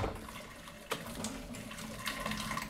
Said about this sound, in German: So, das alles werde ich jetzt erstmal mit kochendem Wasser abspülen.